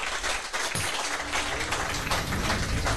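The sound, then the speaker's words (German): A short burst of applause from a small group for the sound engineer, dense overlapping claps forming a steady, crackling wash of sound for a few seconds with no voices. “Kleiner Applaus hier erstmal für unseren Tontechniker.”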